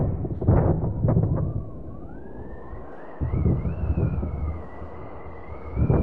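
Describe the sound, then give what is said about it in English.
Staged storm effects cued during a theatre rehearsal: deep, rolling thunder rumbles in heavy bursts at the start, middle and end, while a high, wavering wind howl rises and falls steadily through the whole stretch. “Cue the storm effects.”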